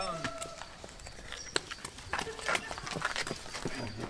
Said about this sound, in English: Those are his footsteps.